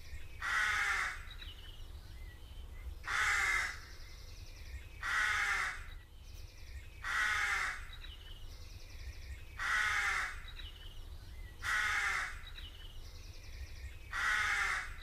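A crow caws over and over, harsh, raspy calls repeating at a steady pace about every two seconds, seven in all, against a low background rumble.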